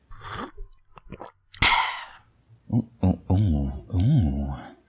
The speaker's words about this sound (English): Have a sip there.